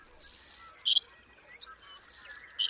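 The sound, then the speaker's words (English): A savannah sparrow sings: very high, thin buzzy trills broken up by short sharp chips, repeated twice across a few seconds with no talking, almost insect-like in tone. “Savannah sparrows breed in grasslands across Canada and the U.S.”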